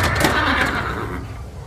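A horse whinnies loudly and close up, a short shrill call that fades within a second or so against a dense, steady wash of background noise.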